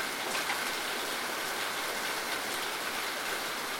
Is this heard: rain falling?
yes